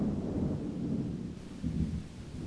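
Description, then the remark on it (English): Deep, steady rumble of thunder rolling on without a break, low and heavy with a slight swell near the end, with no voices over it. “It'll keep me safe from the thunder?”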